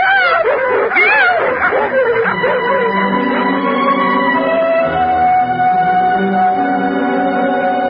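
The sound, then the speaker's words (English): Three dogs bark and yip excitedly in a loud, chaotic burst as they chase people away, then the noise settles into longer, steadier whining tones that continue to the end. “The three dogs chased everyone away.”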